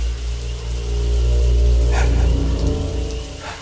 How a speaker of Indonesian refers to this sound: tiba-tiba, astaga, ku dengar dari arah kamar mandi di dalam kamarku itu, shower, Ya, keran shower airnya menyala sendiri.